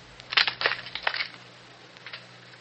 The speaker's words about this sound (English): Is there consent? If so, break your arrow.